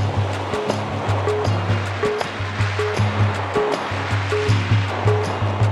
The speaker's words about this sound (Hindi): और अब आकाश में घनघोर बादल छाए हुए हैं, बिजली चमक रही है और थोड़ी देर में खूब पानी बरसेगा।